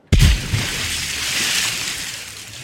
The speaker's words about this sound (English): Suddenly, the ship stopped moving. The children heard the anchor drop over the side with a thump.